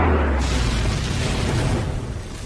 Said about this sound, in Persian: شلیک موشک.